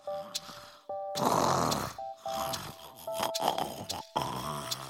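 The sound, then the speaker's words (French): A small boy, fallen asleep from tiredness on his pillow, snores loudly, several rough, rasping breaths in a steady rhythm, some with a faint whistling tone, with no talking over them. “Léon, le pauvre petit, est déjà en train de pousser des ronflements.”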